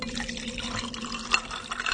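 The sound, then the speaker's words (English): Water pours in a steady, continuous stream at moderate loudness, with a few brief splashy accents near the end and no voices. “The water we drink.”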